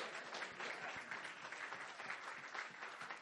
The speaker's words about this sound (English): Come on, I believe it's real. Clap your hands one more time to Jesus.